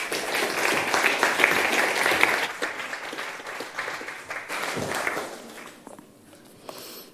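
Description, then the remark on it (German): An audience applauds warmly to welcome a guest preacher, a dense, steady patter of many hands clapping that holds for several seconds before thinning out and fading near the end. “Lasst uns sie mit einem herzlichen Applaus begrüßen.”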